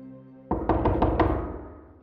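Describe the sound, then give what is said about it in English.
A quick series of about five firm knocks on a door rings out loud, with the thuds echoing and fading after a low, steady hum; the knock comes just past 9 o'clock in the evening on 29 May 1945. “For the forger, the beginning of the end was a knock on the door.”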